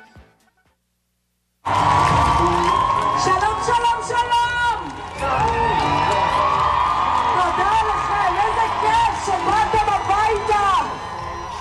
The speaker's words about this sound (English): Sounds of celebration as a helicopter carrying freed Israeli hostages flies over a crowd of thousands in Tel Aviv today. It was the moment many Israelis have dreamed about for more than 2 years.